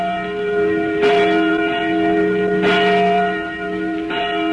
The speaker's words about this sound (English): We made this record of a church bell ringing in Boston just a few days back. And yet the bell itself was manufactured in 1816. That's 136 years ago. By the man who once rode through every Middlesex village and farm.